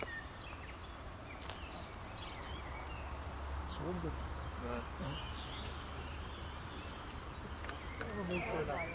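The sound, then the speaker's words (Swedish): A Eurasian woodcock's roding display as it flies past: a few low, grunting croaks followed by thin, high twittering calls, fairly faint over a steady low background hum with other birds and insects around. “Och ungefär så låter morkullan när den drar förbi här.”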